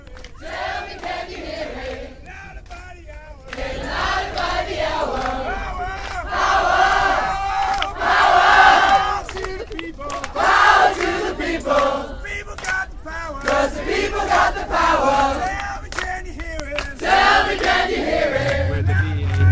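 A large crowd of climate camp protesters chants and shouts together in loud, rhythmic waves of many voices, sustained throughout with rising bursts of cheering, recorded outdoors in the car park of BAA's headquarters on Bath Road, Heathrow, on a day of action.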